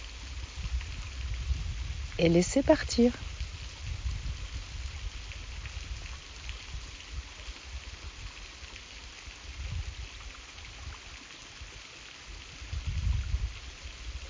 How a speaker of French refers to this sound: Laissez partir, laissez s'écouler ce petit filet d'eau. Écoutez la frêle petite cascade, pâle reflet de ce qu'est la puissante cascade, l'époque des grandes eaux.